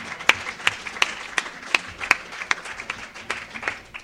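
A small audience applauds for a few seconds, a steady patter of overlapping claps with some sharper, louder individual claps standing out, heard close without any talking.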